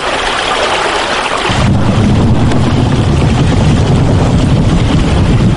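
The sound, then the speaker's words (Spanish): Steady rain hisses outside, then grows fuller and louder after a couple of seconds as a window slides open, letting in a dense wash of falling rain with a low rumble beneath. “Con precipitaciones, ¿eh? La lluvia, todo eso”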